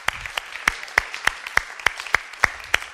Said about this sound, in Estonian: Anname Issandale aplausi.